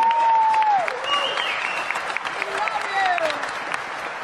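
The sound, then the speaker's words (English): A crowd applauds steadily, dense rapid clapping that holds at an even loudness for the whole stretch, with a few faint voices and whistles rising through the noise. “Okay, so you guys all are clapping, but do you know, to this administration, that makes me a criminal?”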